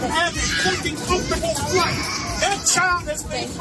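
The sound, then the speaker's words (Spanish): A baby having a tantrum cries and wails in high, rising bursts inside an airplane cabin on a domestic flight in the United States, mixed with other children's voices and a steady low hum of background noise. “Allí el llanto de un bebé terminó pues desquiciando a uno de los pasajeros, de tal forma que el vídeo ha terminado siendo viral.”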